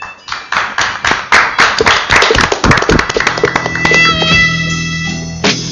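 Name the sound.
audience applause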